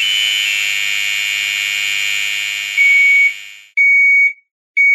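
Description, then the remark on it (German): A piercing, high-pitched smoke detector alarm sounds loud, a continuous shrill tone for several seconds that breaks into two short, sharp beeps, with no voices. “Typische Warntöne sind zum Beispiel das Piepen eines Rauchmelders oder die Sirene des Rettungswagens.”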